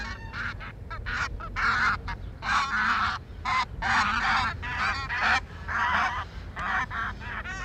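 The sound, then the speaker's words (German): Thousands of barnacle and brent geese sitting on a pasture in Eiderstedt in autumn or winter, honking continuously, many overlapping calls forming a dense, loud chorus, with no talking. “Wenn wir hier im Herbst und Winter die Gänse haben, wenn Tausende von Gänse, Nonnengänse und Ringelgänse hier auf einer Weide sitzen und man das sieht und hört, dann merkt man Natur, dann fühlt man Natur.”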